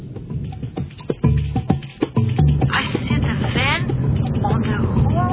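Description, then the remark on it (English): Busy, jammed city street traffic on the Rua da Carioca: a steady low rumble of vehicles with scattered sharp knocks and clatter, rising tonal sweeps like horns or engines, and a murmur of crowd noise throughout. “Too much traffic.”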